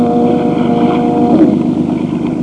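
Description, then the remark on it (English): A motorboat engine drones steadily and loudly on a river on a dark, moonless night as fog drifts in, its low, buzzing tone holding constant with a faint whine of higher harmonics and slight wind rumble, with no voices. “As I was easing my boat toward what I thought was the shore, the motor quit.”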